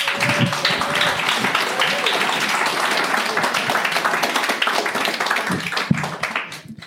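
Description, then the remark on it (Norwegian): An audience in the hall at the Filosofifestivalen applauds steadily for several seconds as a guest is invited up to a green chair with a microphone, a dense wash of many hands clapping at once, with a faint tone early on before the clapping tapers off at the end. “upp till att sätta sig I den gröna stolen med en mikrofon och prata lite om ge en applaus.”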